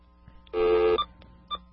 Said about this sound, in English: so I'm going to scroll back and dial this number.